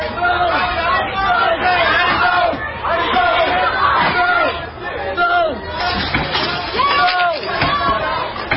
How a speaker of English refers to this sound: Protesters in Louisville are angry with today's decision not to charge any of the police officers with shooting Breonna Taylor. These protesters storm a restaurant and begin throwing tables and chairs on the outdoor patio.